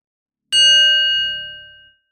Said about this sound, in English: Let's begin with a bell.